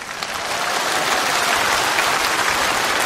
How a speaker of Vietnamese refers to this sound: À, cho một tràng pháo tay nữa.